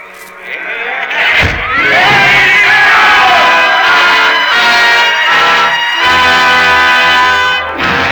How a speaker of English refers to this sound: Sidney Carton has found his destiny, and the roar of the crowd fades into the silence of 150 years ago.